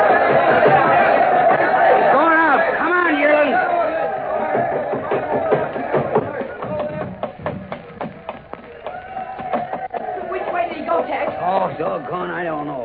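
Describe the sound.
Dense ringside crowd chatter at a wrestling match, many voices overlapping in a steady murmur, with a run of sharp knocks and thuds cutting through the middle before the babble settles again.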